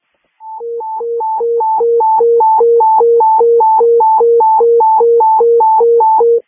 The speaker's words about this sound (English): Negative. The tones were not received. Message received. I'll retone.